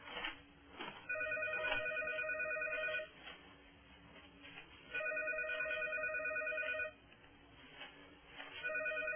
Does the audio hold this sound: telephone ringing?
yes